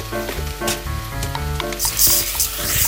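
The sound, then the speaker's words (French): Rice sizzles steadily in fat with sautéed onion in a hot saucepan while being stirred until translucent, with repeated scraping strokes and a bright hiss that swells near the end. Fairly loud, no voices. “Allez hop, le riz directement dans la casserole et là on remue jusqu'à ce que notre riz soit translucide.”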